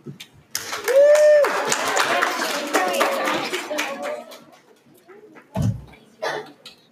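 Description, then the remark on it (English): An audience at a project presentation event breaks into applause for a presenter, mixed with cheers and a high whistle, swelling quickly and fading after a few seconds, followed by a couple of scattered sounds. “As a reminder, to honor each presenter, please honor them by listening and applauding after each presentation.”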